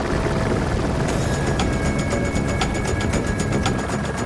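helicopter flying

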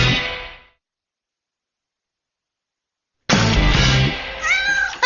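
cat meowing

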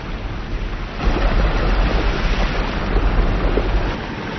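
rushing waterfall

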